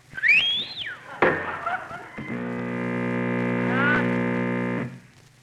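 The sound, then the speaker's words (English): A speaker on a radio broadcast gives a shrill whistle that swoops up and then down for about a second, cut off by an abrupt crash as a tube breaks, giving way to a loud, steady electronic buzz before it stops. “Ladies and gentlemen, due to a broken tube caused by the shrill whistle of a certain speaker on this station, we will be unable to proceed with the broadcast that was scheduled.”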